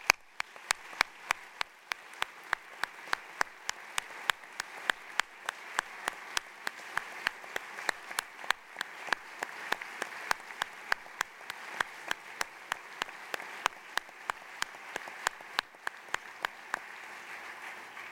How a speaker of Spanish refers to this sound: Además, tenemos entre nosotros una extraordinaria persona al que me gustaría que le diéramos todos otro fuerte aplauso, por favor.